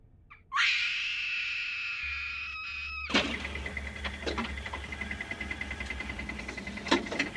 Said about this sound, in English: Komal could now scream, and she let the full force of her terror bounce against the walls of the cave.